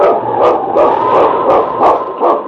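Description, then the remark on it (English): Loud dogs bark in a steady run of sharp yelps over a continuous wavering howl, about six bursts in quick succession: a sled team of huskies led by King, lead dog of the North Country, in the radio drama Challenge of the Yukon. No one speaks. “It's King, swiftest and strongest lead dog of the North Country, blazing the trail for Sergeant Preston of the Northwest Mounted Police in his relentless pursuit of lawbreakers.”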